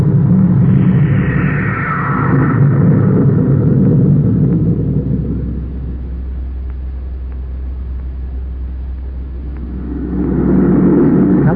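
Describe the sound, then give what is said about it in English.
Spaceship jet engines fire for takeoff with a loud, deep, continuous roaring rumble that swells, eases off in the middle, then surges again toward the end. No one speaks. “Close port. Fire jet. Fire jet. Up, ship it away.”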